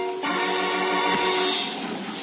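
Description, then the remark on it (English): Railyard train noise as a switch engine shunts empty boxcars back and forth: a steady, loud rumble of rolling cars with a sustained metallic whine layered over it, lasting a couple of seconds without pause. No one speaks. “He stopped by the railroad yards, lit a cigarette, watched the switch engine batting some empty boxcars back and forth.”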